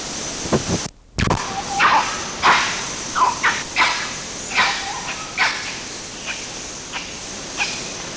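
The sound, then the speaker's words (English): A series of short, sharp barks from red colobus monkeys of the RUR group rings out over a steady hiss of forest background: a bark followed by a differently pitched nyaw bark, from two different individuals, with several more brief calls spaced irregularly after. “There was a bark and then a nyaw bark, from one from each of two different individuals.”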